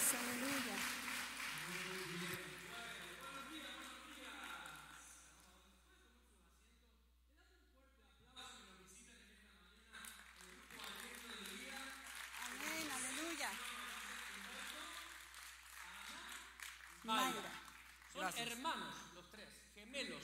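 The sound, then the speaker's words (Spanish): A church audience claps in praise to the King (the Lord) in a steady, crackling wash of applause, with voices calling out over it; the clapping fades briefly midway, then swells again beneath the talk and exclamations. “Aleluya, aleluya, dale un aplauso, gracias, al Rey.”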